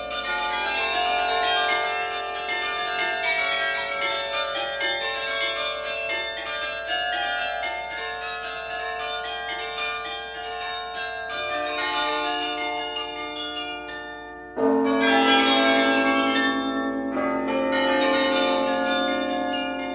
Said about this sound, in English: The Chimes of Delft.